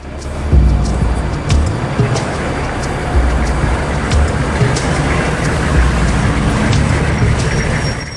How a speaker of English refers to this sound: An armored truck leaves the site. The truck drives into a secure depot.